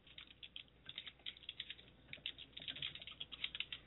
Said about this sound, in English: Oh, you can hear us typing.